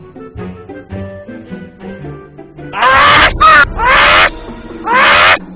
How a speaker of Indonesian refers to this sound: Itu, seekor burung gagak.